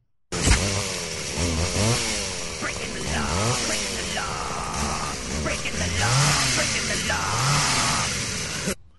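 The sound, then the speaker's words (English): A chainsaw engine revs loudly and repeatedly, its buzzing pitch rising and falling in uneven bursts for several seconds, with the voices of Beavis and Butthead, who are playing with the chainsaw, mixed in over the noise. “So they're playing with a chainsaw.”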